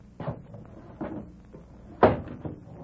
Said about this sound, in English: Anything else? Shut the window.